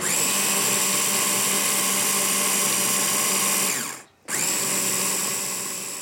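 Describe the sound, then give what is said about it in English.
A blender blitzing ingredients, starting with vinegar, whirs loudly and steadily with a high, tonal whine, cuts out abruptly for a split second near the end, then spins back up and keeps blitzing. “It's like a lid that you can pour things in as it's blitzing.”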